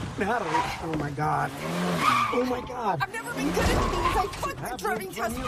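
A car maneuvers back and forth in a three-point turn, backing up, then pulling forward and stopping, its tires squealing and skidding in rising and falling wails while the engine hums steadily underneath, fairly loud.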